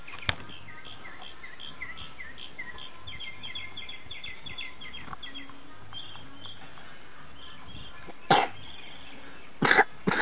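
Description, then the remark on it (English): A few short, sharp coughs: one right at the start, then a pair near the end, over a quiet background with faint high chirping. “Yeah, cough.”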